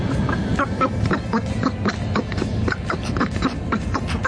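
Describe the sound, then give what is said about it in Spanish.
A rapid stream of nasal, duck-like quacking vocal sounds, like a cartoon duck voice resembling Donald Duck chattering continuously for a few seconds, heard playing on COPE Cádiz radio. “Parece el pato Dona, que te han cambiado, te han pegado el cambiazo, mi hermano.”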